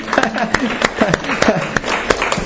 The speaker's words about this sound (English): Let's give a clap offering to the Lord.